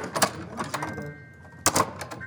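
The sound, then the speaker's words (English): A small sound-effect door, a gadget for radio drama sound effects turned sideways, rattles and clicks as its latch is worked, with a faint metallic ring, then shuts with a sharp double clack near the end. “shows me that thing that all radio dramas need, a door.”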